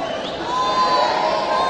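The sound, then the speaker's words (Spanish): A group of people in blue shirts shouts a practiced cheer together, a dense, sustained roar of voices that swells slightly and holds steady at full volume for the rest of the moment. “Se ve que practicaron el grito toda la noche.”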